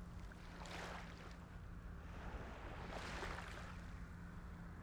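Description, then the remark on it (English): Gentle ocean waves lap onto the shore, two soft washes rising and fading over a steady low rumble of water and breeze, calm and unhurried, with no voices. “Bring your attention to the space in front of your closed eyes and begin to welcome the image of gentle waves rolling onto the shore, the soft lapping of ocean waves.”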